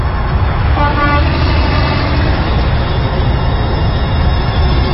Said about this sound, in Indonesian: Entah perasaanku saja, atau memang mobil yang menyusul kami ini, sebuah mobil kijang berwarna merah marun dengan plat B.